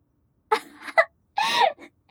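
A person's big, drawn-out yawn after a meal on a calm, breezy early afternoon, in two moaning swells, the second rising and breaking off with a sigh-like fall, fairly loud with no talking.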